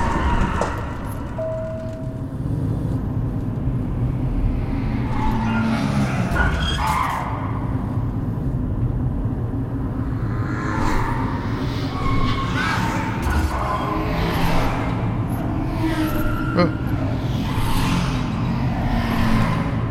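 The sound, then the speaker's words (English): Video game cars roar and speed past inside a tunnel with tires skidding, engine noise rising and falling in a steady, busy, loud stream of traffic that fills the whole stretch. “Oh man, these cars coming at me like crazy.”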